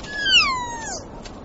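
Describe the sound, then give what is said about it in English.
A single drawn-out call of a kea, an alpine parrot of New Zealand, a loud, wavering screech that slides downward in pitch and tails off, sounding almost like a cat's meow over faint background noise. “Alpine parrots, called kia after their calls.”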